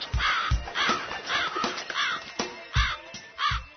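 A raven caws repeatedly, six or seven harsh, hoarse croaks in an uneven rhythm, fairly loud and alone with no voices.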